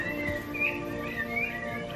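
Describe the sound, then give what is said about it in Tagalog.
Several birds chirp and warble continuously, their high twittering calls rising and falling over a steady low hum in the background, moderately loud. “Ang kanilang mga huni ay maganda sa aking pakikinig.”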